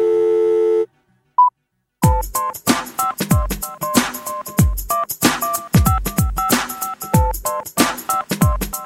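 A buzzy telephone busy tone sounds briefly after a phone is hung up, followed by a short beep and a pause. Then a loud, punchy drum beat starts, layered with repeating electronic phone-like beeps. No one speaks.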